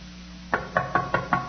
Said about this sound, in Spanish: Toqué la puerta. No salió nadie.